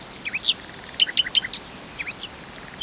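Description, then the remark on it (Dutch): Two rival male songbirds trade quick, bright whistled phrases in a short song duel over a female, mimicking parts of each other's songs, clusters of high chirps bursting out every second or so over a faint, steady background hiss. “Om elkaar te treiteren doen ze zelfs delen van elkaars liedjes na.”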